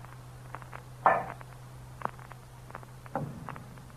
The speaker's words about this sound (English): With my earthenware jug, I knocked against the wall where the sound came.